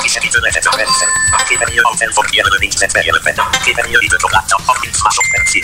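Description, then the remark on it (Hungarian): Short electronic Facebook message notification beeps chime twice over rapid, continuous speech, one early and one near the end. “Közben itt jönnek a Facebookos üzenetek is, ez a csipogás, de ezzel most nem törődünk.”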